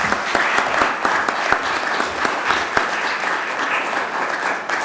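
An audience in a courtroom applauding steadily, a dense wash of many hands clapping at once, sustained and fairly loud throughout with a few sharper individual claps standing out.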